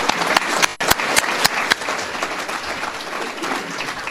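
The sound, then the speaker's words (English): A crowd applauds the county sheriff steadily, a dense wash of clapping with a few sharper, louder claps standing out in the first couple of seconds before it settles into an even patter. “Let's give him applause because he's wonderful.”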